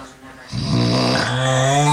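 A man with sleep apnea snores heavily in his sleep: a brief near-silent pause as his breathing stops, then a loud, rasping snore with a buzzing tone that swells and holds to the end.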